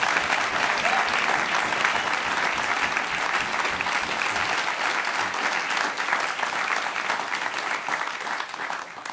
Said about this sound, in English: So it's a great privilege to have him here. I know everybody else in the band feels the same. You know, it's just lovely to have him. How about a round of applause, …, ladies and gentlemen?